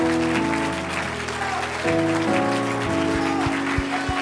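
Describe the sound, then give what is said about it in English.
A church audience claps hands in praise to Jesus, a dense, sustained wash of applause over organ-like sustained music tones throughout. “Let's give Jesus a great big hand clap of praise.”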